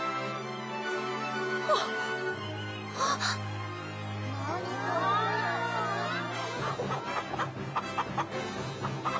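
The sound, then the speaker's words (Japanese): Several birds cluck and chatter together, their busy calls rising midway through over a steady humming background, then continuing in scattered bursts. “鳥さんだ。”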